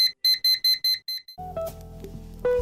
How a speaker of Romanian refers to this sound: La ora la care unii nu știu cum să iasă mai repede din casă, alții mai au timp să mai amâne alarma ceasului pentru cel puțin încă 10 minute.